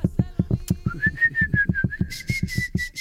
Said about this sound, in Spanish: cantábamos las canciones silbándola, pero cada uno una voz diferente.